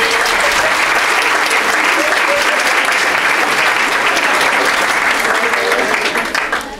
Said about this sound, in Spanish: Bueno, un aplauso para ella también.